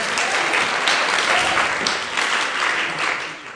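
A crowd applauds steadily to welcome a speaker, a dense, even wash of clapping that holds its level for a few seconds before easing slightly at the end, with no voices standing out.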